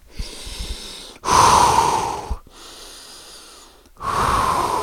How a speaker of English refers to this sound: You step outside of your skin a little bit and take a fucking breath so you can read your fucking notes.